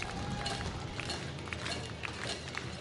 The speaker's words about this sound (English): Cowbells and unified claps.